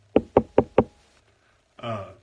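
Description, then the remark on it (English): Four quick, evenly spaced knocks on wood, fairly loud, followed after a short pause by a brief voiced sound. “Knock on wood.”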